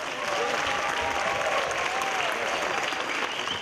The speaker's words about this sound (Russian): Поэтому я хочу, чтобы сейчас бурно поаплодировали, чтобы они слышали, как гудит зал.